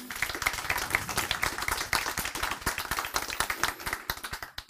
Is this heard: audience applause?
yes